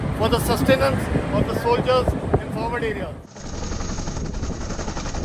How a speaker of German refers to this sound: Über Leh, der Hauptstadt des indischen Hochgebirgsterritoriums Ladakh, sind immer wieder Hubschrauber der indischen Streitkräfte zu hören und zu sehen.